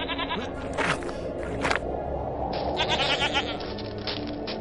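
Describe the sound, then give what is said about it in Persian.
Several sheep bleat in overlapping, wavering cries, fairly loud, over a steady background of flock noise with no speech. “سرداران، این نوجوان گوسفندان مرا دزدیده است.”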